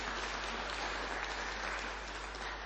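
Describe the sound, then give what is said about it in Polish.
Steady, dense applause from a large crowd fills the whole stretch, a continuous wash of clapping at even loudness with no one speaking over it, welcoming representatives of the St. Matthew parish delegation from Biesiadki. “Biesiadki, parafia świętego Mateusza, także brawa dla przedstawicieli.”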